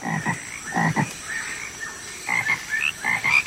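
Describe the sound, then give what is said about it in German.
Frogs croaking in a rapid series of raspy, pulsing calls, several overlapping bursts with short pauses between, no voices present. “Aber so klingen diese Frosch-Newcomer nicht. Statt Quaken sind ihre Laute wie ein Beam-me-up in andere Sphären.”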